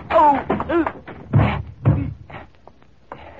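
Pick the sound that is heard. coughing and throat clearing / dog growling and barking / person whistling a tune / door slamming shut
door slamming shut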